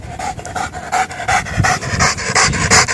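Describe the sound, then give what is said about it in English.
A dog named Ninja pants hard and fast, a steady rhythm of loud, breathy huffs repeating throughout with no talking. “the only time we saw this dog happy was when he was totally and completely exhausted.”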